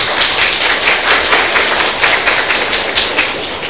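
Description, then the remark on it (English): A crowd applauds steadily for a brave boy, many hands clapping in a dense, continuous wash of sound, with no voices standing out. “Give him a clap.”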